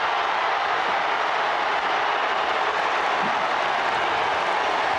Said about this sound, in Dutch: En een van de comments is, die mail heeft nog nooit zo'n applaus gehad.